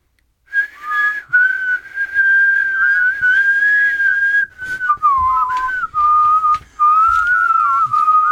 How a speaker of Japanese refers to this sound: 口笛漫才。対戦相手震えんじゃねこれ。一応やってみ一人で。